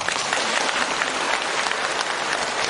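Sustained applause from a large audience, a dense, steady clatter of many hands clapping at once, filling the whole stretch without pause or speech.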